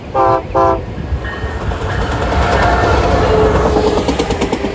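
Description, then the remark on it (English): A commuter train gives two short, loud horn blasts, then rumbles steadily along the tracks with a continuous roar and faint rhythmic clatter. No one speaks. “I take Coaster down here. I take Metrolink to visit my girlfriend in Orange County.”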